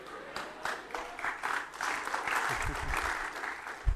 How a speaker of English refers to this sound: Check out, they're all giving themselves a hand of applause. Oh, I love it.